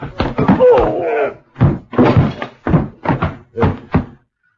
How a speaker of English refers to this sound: I ground a shoe into his shin and slammed a short left hook to his jaw. He went back against the others, and I tried jamming to shut the door, but they piled back against me with a lot of weight, a lot of slugging, until finally...